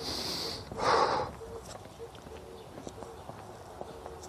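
A single breathy yawn in the morning swells and fades within about a second, followed by quiet room tone with a few faint ticks and rustles.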